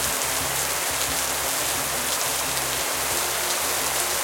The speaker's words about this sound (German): Grau im Grau der Himmel. Mehr als 18 Grad sind nicht drin. Und immer wieder regnet's.